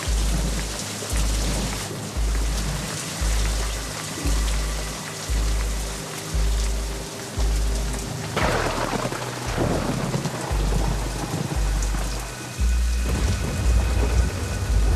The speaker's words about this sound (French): En quelques minutes, la petite pluie va se transformer en averse diluvienne.